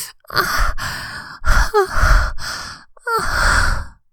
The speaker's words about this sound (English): I gasp and whimper against your ear. Panting and moaning.